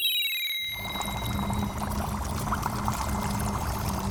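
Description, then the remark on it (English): Tangerine syrup pours in a steady, continuous stream onto an hourglass, fairly loud, after a brief high descending whistle-like tone at the start. No one speaks. “Let me make some syrup and pour it on that hourglass.”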